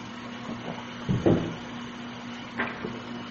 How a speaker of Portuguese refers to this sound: Deixa eu tomar água, peraí.